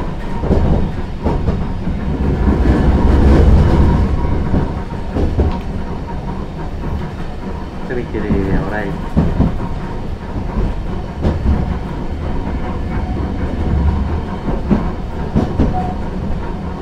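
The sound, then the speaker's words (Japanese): Steady low rumble of an electric train rolling on rails, heard from inside the car, with rhythmic wheel clatter, a brief squealing tone midway, and continuous mechanical hum throughout, as the train passes over points before the stop Hiyamachi in Japan. “この先ポイントを通過のため電車は揺れますのでお気をつけください。”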